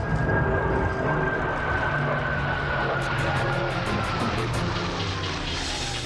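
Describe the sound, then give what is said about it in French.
A loud, steady jet engine roar as fighter jets take off at night from Aviano, Italy, bound for Pristina, with a thin whine sliding slowly downward as an aircraft thunders by, a rapid pulsing rattle briefly joining in midway. “Le 24 mars, cinq jours plus tard, dans l'encre bleue de la nuit d'Aviano, en Italie, les premiers avions de chasse décollent, direction Pristina.”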